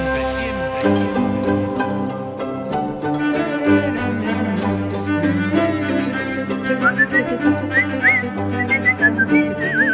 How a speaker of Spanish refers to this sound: Hace tiempo que no silbábamos.